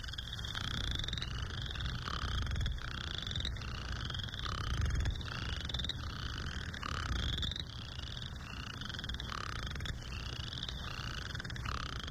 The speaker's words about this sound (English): They're going to jump in these vernal ponds, and they're going to start to sing. And this is what you'll hear when the western chorus frog starts to sing.